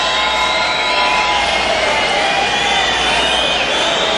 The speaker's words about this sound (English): People getting loose, dancing, enjoying the moment. And right now, cheering and waiting for more.